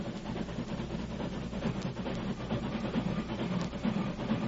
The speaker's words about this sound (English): Gosh, ain't they going to see them logs? Don't be so all fired fidgety. Keep out of sight, you fellas, till the train stops. They seen the logs, all right. They sure did. Just hold still. They'll be stopping soon.